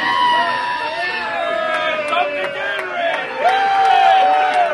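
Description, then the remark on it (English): A crowd in a bar cheers and hollers sarcastically as the game clock runs out on a Detroit Lions loss to the Green Bay Packers, with many voices yelling over one another, loud and sustained throughout and swelling near the end. “In case you can't tell, that cheering as the clock ran out was dripping with sarcasm.”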